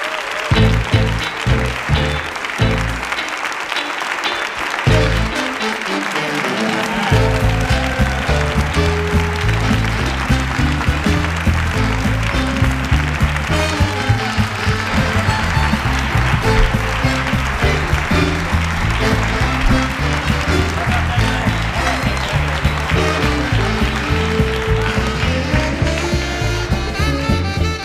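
A live audience at the By Dominos comedy room in the Movistar Arena breaks into loud, sustained applause welcoming Javier del Pino and the comedians of La Vivir, with upbeat music playing underneath the clapping.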